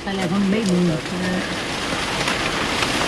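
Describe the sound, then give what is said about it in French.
Heavy tropical rain pours down steadily in a dense, constant hiss, fairly loud, with a voice briefly speaking over it at the start. “Aqui a chuva é tropical.”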